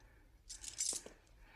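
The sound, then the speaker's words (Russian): A small metal front door key is set down with a few quick, bright clinks, then a soft tap against a hard surface. It's fairly quiet, with no one speaking. “Ключ от парадной.”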